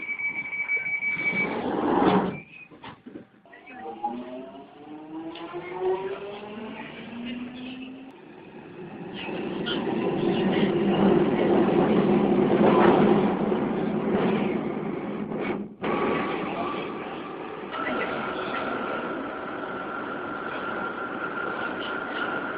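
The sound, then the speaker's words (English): Steady rumble and rattle of a moving London passenger train terminating at Stratford, heard from inside a carriage approaching London Bridge, with rising and falling electric motor whine, a sharp clatter midway, and a sustained hum near the end. “This train terminates at Stratford.”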